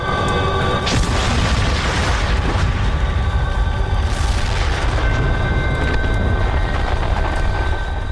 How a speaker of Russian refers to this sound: И в этот момент ударил взрыв.